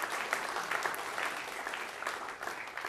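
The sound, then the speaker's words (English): A crowd claps steadily for the parents of graduating high school students, a dense, sustained patter of many hands at an even loudness, with no voices rising above it. “So we just give us a hand clap for the parents who put in all those long hours and time.”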